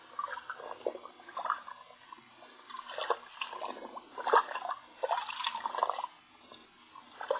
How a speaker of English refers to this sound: But we couldn't detect anything that would trigger the thing, so we'll put it in the water bucket here. Did you put wetting agent in the water? Yeah. It'll soak through the wrapping quicker and then throw anything else inside that much faster.